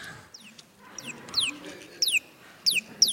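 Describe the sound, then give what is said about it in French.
A bird chirps in quick, bright, descending notes, repeating in short bursts about every half second, clear over a low background murmur. “Des fois, quand je ne sais pas très bien, je vais demander à l'oiseau.”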